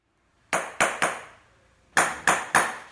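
Hammering on shoes in a workshop: two bursts of three sharp, ringing strikes each, a brief pause between the groups, with no voices.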